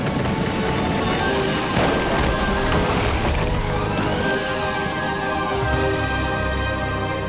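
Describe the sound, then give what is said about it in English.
A large oak tree, the Thunder Oak, chopped with an axe, crashes down in a long, loud roar of cracking and splintering wood, a heavy rumbling crash that fills the whole stretch without any talking. “You see, the Lord has felled the Thunder Oak.”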